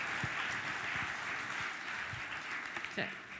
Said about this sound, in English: So, okay. Round of applause. Yay.